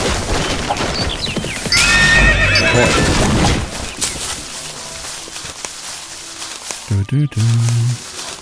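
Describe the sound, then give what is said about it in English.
A horse lets out a loud, high, wavering whinny amid busy clattering, with hooves clip-clopping, then a few short, lower tonal bursts near the end. “Ich entschuldige mich beim Pferd.”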